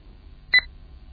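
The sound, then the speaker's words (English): A single short electronic status beep from a device as a modem dials, connects and logs on, bright and clear, sounding once against a quiet low hum with no talking. “Those beeps are just telling me that things are happening, which I appreciate.”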